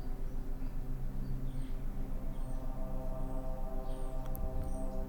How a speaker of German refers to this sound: Du hörst das leise Vogelgezwitscher und gibst dich hin den Prozessen, die in dieser Heilung folgen.